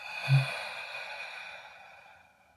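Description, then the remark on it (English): A long, slow breath out, soft and airy, starting with a brief gentle push and then fading gradually into quiet. It is fairly faint, with no talking. “Breathing out.”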